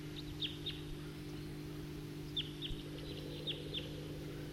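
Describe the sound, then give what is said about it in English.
Short, high calls of a male bird perched on the top of a tall tree come in two bursts, a quick few and then a longer run of sharp chips, over a steady low hum with no talking. “I just played that back, and while I did that, a number of type 2 birds flew over and went to the southeast, and meanwhile the bird I just recorded is still here.”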